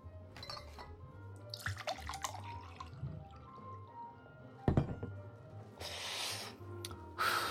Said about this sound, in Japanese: ブランデーでいいな。ついでやろう。グラスを持ちなさい。